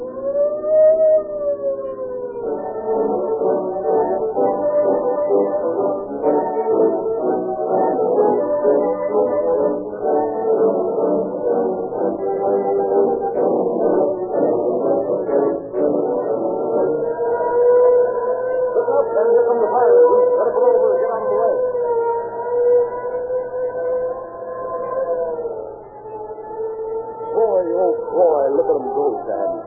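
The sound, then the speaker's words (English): A passing fire engine's siren wails loudly and continuously for about half a minute, its tone rising and falling in long sweeps over a dense, rumbling background of clatter and noise. “Like that and follow the fire engine?”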